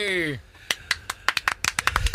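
A small group of guests in the studio of the Alex Rosén Show on Radio Rock claps loosely and unevenly to welcome the host, a dozen or so sharp claps following a brief falling tonal sweep at the start, with no talking.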